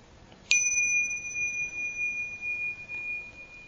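A small meditation bell is struck once during a silent meditation, as it is every few minutes; its clear ringing tone sustains and slowly fades over a few seconds against a quiet background.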